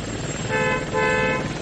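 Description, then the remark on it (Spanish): Two short, bright horn toots blare in quick succession from a traffic-reporting helicopter, standing out clearly over a steady, rumbling engine drone. “si nos oyes, toca la bocina del helicóptero, por favor.”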